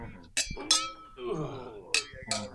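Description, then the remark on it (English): Glasses clink together in a toast, four bright ringing taps in two pairs, crisp, with murmured voices in between. “Oh, I can't even drink my sparkling soda. Cheers, by the way, everybody.”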